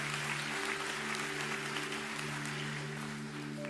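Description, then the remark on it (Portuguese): An audience applauding the Lord after a reading from Psalm 46, in a steady, dense wash of clapping, with a sustained organ or keyboard chord droning underneath throughout. “Quantos podem aplaudir o Senhor?”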